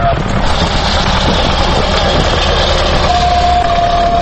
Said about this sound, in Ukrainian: Віковий чернечий ліс поблизу села Лісники на Київщині. Тут мав бути заказник, але зараз ревуть трактори й бензопили.